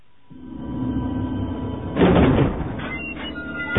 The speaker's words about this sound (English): Corrin pulled the double doors of the gate as far apart as possible, then squeezed through the opening.